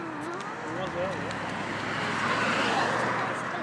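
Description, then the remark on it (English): Steady roadway traffic of cars rushes past, a broad wash of engine and tire noise that swells slightly toward the end, with a voice briefly audible near the start. “Dumb cars.”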